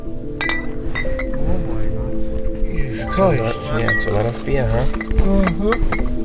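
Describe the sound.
Glass bottles, mostly beer, clink and knock together repeatedly as they are handed into a bus, over twenty of them, bright irregular chinks over a steady low hum, with voices talking indistinctly underneath.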